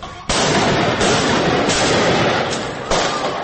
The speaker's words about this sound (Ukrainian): Стріляють у центрі Парижа. Двоє невідомих з автоматами Калашникова вдираються до редакції сатиричного журналу «Шарлі Ебдо» і відкривають вогонь.